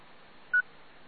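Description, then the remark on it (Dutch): A single short electronic beep from the Ham Radio Deluxe program, steady and mid-pitched, lasting about a tenth of a second over a faint background hiss, with no voices. “Wie of wie kan Ruud daarop antwoorden over die piep die hij dus krijgt?”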